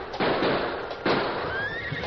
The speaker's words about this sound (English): They were just about to turn in for the night when gunshots rang out above the rain.